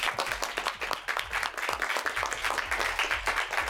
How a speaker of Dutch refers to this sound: Geef ze een heel groot applaus.